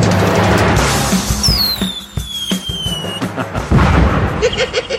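Loud, rapid bursts of heavy anti-aircraft cannon fire crack out in an irregular volley, with high whistling streaks overhead and a dense, rumbling backdrop of blasts; a reconstruction of an execution by anti-aircraft cannon in North Korea under Kim Jong.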